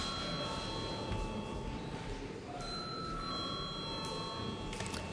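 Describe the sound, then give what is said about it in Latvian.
A continuous electric bell rings steadily in a parliament chamber before a vote, a bright, shrill tone with a slight metallic buzz and no breaks, over a low background murmur. “Paldies, lūdzu zvanu.”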